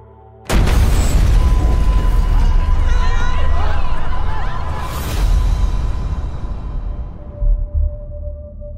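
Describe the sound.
A sudden loud explosion bursts in, followed by a long rumbling roar with crackling debris and a whooshing swell that slowly fades, with faint shouting voices mixed into the chaos.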